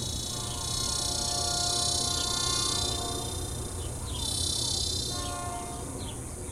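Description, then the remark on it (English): A dense, steady drone of cicadas fills the air, layered over a low rumbling train that swells slightly as it approaches on tracks not far away, with a few faint bird chirps in the background. “And the cicadas, electric and itchy, their insistent drone a backdrop to the crescendo of this iron horse.”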